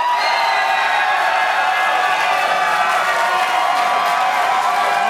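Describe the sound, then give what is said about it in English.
An audience applauds and cheers loudly to vote for Jack Porkins, measured on an applause meter, a dense, steady wash of clapping with whoops mixed in, sustained without a break for several seconds. “We got the applause meter up.”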